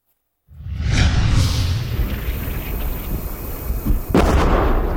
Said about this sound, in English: The explosions are dangerously close as the drone team from the 92nd Assault Brigade set up their bird, attach the bombs, and head off into battle.